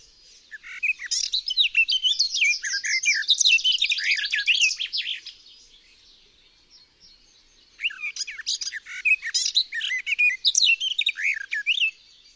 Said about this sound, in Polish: W śpiewie gajówki oba rodzaje dźwięków chaotycznie przeplatają się ze sobą.